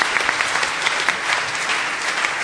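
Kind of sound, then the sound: crowd, audience clapping hands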